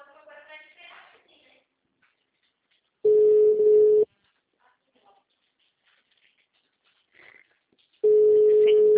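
signal or alarm, telephone busy signal

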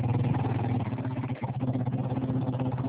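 vehicle, motorcycle engine running

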